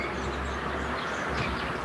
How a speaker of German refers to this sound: man hört sogar, wie ein Auto über die Straße fährt